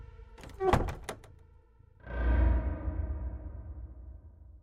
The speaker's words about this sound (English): And I slowly pulled the door tight behind me.